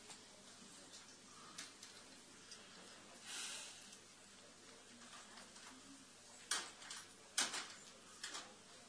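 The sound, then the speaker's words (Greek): A door that will not shut easily being pushed closed: soft scraping and a few sharp knocks and clicks in quick succession, fairly faint, with no talking. “κλείς την πόρτα.”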